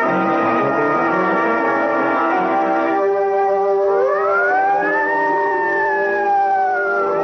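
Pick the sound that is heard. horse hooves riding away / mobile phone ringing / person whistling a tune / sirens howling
sirens howling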